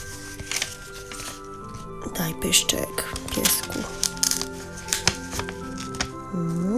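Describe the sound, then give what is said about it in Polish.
Paper handling: a series of short rustles, taps and light crinkles as a piece of paper is slid into place and glued down, under a person's steady talking. “Wsuwam i przyklejam, tak?”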